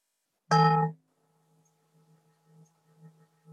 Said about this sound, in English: I'm sorry if the bell sounds a bit clunky. I put on original sound for Zoom, but it still doesn't do it very well. So, but you know what the bell sounds like.